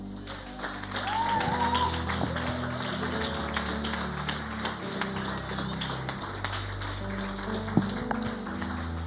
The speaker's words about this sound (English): So why don't we honor him as he comes by standing and giving him a round of applause.